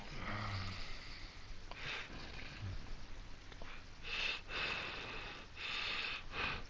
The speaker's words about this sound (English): Who's heavy breathing?